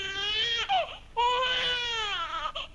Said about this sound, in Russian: Не плачь, маленькая. Ты и так достаточно настрадалась.